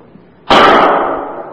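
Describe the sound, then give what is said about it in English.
A single sudden, loud bang like a pistol shot breaks a quiet stretch, then rings on in a broad, slowly fading roar. No one speaks. “That sounded like a pistol.”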